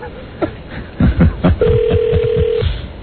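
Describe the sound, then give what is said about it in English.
A telephone being dialed: a run of quick clicks and tones over a narrow, phone-line sound, with a steady hum-like tone held for about a second partway through. “Let me just double check with the weasels upstairs.”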